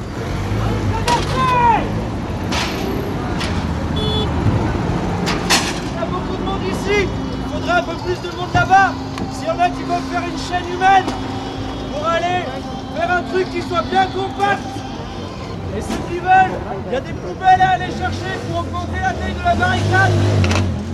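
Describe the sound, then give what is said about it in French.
Traffic rumbles steadily, engines idling and passing, while a crowd's voices and shouts rise and fall over it in an outdoor street in Lyon, France, where protesters block traffic entering the city on 10 September, placing rubbish bins in front of cars. “Les flics ont déjà gazé une fois visiblement et on a donc décidé de bloquer la circulation qui rentre sur Lyon visiblement.”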